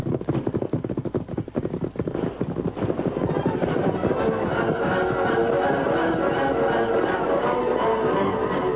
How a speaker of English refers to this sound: The Lone Ranger and Tonto kept far enough ahead to be fairly safe from the scattered gunshots.